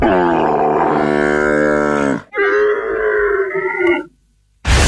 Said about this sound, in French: Quel est cet animal? Bah, je dirais un âne. Non plus. Non, c'est plus Cordillère des Andes. Hein. J'ai dit hier. Hein. Un lama. Ouais.